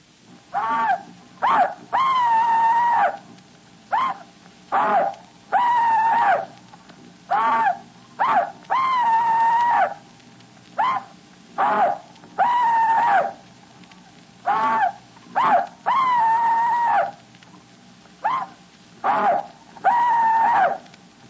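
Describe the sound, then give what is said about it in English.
An elderly Confederate veteran's rebel yell, recorded by radio station WBT, Charlotte, North Carolina: a rapid series of loud, high-pitched whooping cries, short yips alternating with longer wavering hollers, repeated for about twenty seconds over a faint background hum. “Now here is one Confederate veteran's rebel yell.”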